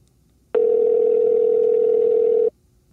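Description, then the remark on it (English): A steady, unbroken telephone dial tone of an outgoing phone call hums at a single mid pitch for about two seconds, starting and stopping abruptly, with nothing else around it. “All right, September 10th, 4 o'clock, calling Richard.”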